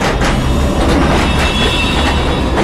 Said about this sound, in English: Mind the tram. Tram? You mean a trolley bus?